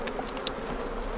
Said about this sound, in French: la ruchette plus en entrée, et puis les abeilles de la ruchette vont rejoindre les autres dans la ruche. Donc un petit coup de fumée, là on entend le bruissement.